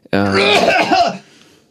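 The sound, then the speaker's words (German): A single loud cough-like burst from a voice, coughed past the microphone, rough and voiced, lasting about a second before fading into quiet. The voice seems to imitate a cough rather than cough naturally. “Und naja, der Heimatdichter Nummer 1, da lässt sich natürlich nicht vermeiden, dass man einmal Goethe zumindest am Mikrofon vorbei hustet.”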